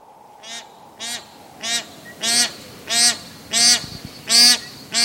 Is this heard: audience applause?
no